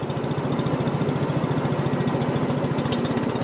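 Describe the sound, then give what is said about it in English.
A long-tail boat engine runs steadily as the boat heads to the Si Phan Don (4,000 Islands) in southern Laos near the Cambodian border. Its loud, rapid mechanical throb pulses evenly throughout with a rough, buzzing rattle and no voices. “A long-tail boat heads to what's called the Si Pandon, or 4,000 Islands, in southern Laos near the Cambodian border.”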